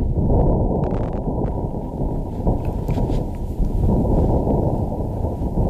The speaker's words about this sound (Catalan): Doncs això és com sona el vent marcià de veritat. De veritat. No és allò, no és cap... No, aquí no hi ha fake. Aquí no hi ha fake, ni és Hollywood, ni res. És el cert.